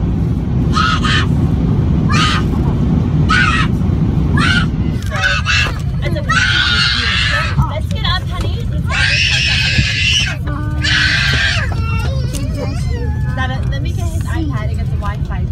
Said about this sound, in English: That's an 8-hour flight. Mm-hmm. And you had a screaming toddler on it. This has gone viral.